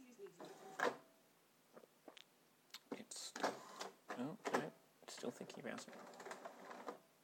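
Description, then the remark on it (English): A printer whirs and clatters in short uneven mechanical bursts, grinding as it pulls paper through and jams, with a voice audible intermittently around the noise. “So just suck up that paper, dearest printer, and do what you do best, theoretically.”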